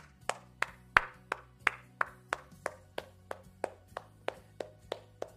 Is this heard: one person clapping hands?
yes